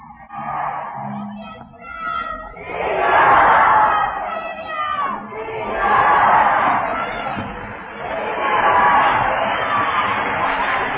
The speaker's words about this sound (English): There, the crowd is hollering the name Jesus.